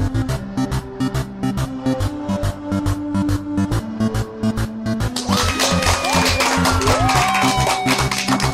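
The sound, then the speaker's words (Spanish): Upbeat music with a steady beat plays, then a dense wash of clapping and cheering with whistles swells in over it for the last few seconds, loud. “Y con esa energía positiva y esos aplausos damos inicio a este episodio 90 ya del programa Te Invito a un Café.”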